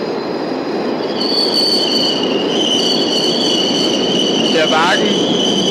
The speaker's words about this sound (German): U-Bahnhof Wolterstraße, das ist der erste U-Bahnhof hier wieder auf Westberliner Gebiet, nachdem die Bahn den Ostsektor von der Leinestraße hier kommend durchfahren hat. Jetzt läuft ein Zug von der Leinestraße her kommend in den Bahnhof ein.